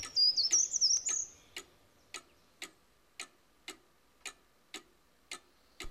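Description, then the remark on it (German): A cuckoo clock ticks steadily in even, crisp beats, about two per second, opening with a brief high chirpy bird-like whistle at the start. No talking. “Zur gleichen Zeit in der Kuckucksuhr.”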